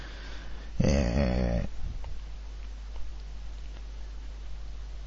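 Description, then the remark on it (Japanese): A pet cat lets out a single drawn-out, squeaky yawn, lasting under a second, followed by quiet room hum and faint rustling. “あ、この野郎人がこれからいい話しようとしてるときにあくびしやがって、このかわいこちゃめ。”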